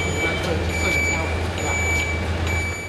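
A large truck carrying the Bayeux Tapestry, arriving overnight at the British Museum after a high-security journey from France, idles with a deep, steady engine rumble while a high electronic warning tone sounds repeatedly over it, like a vehicle backing up.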